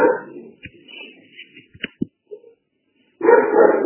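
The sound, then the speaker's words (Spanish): A small female dog named Azuki yaps in a couple of short, sharp bursts at the start and end, with faint whimpers and quiet gaps in between. “Está aquí labrando.”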